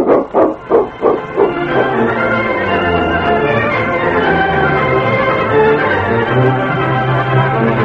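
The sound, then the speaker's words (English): A dog barks in a quick run of about five loud barks, then the sound gives way to a steady, sustained tonal drone that carries on to the end. “King's pretty wonderful, Sergeant, but I've got a fine dog, too.”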